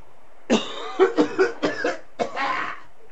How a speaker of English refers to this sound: as everybody around here started coughing at once. I don't know why that is. Why are you coughing?